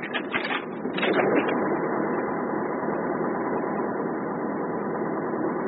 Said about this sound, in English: that bloody compressor